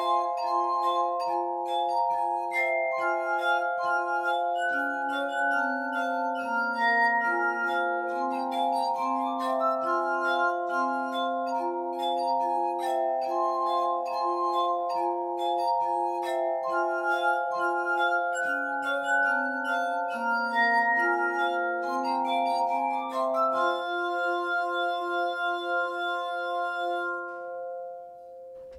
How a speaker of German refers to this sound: Und bis dahin spielen ein paar Musiker Glasmusik.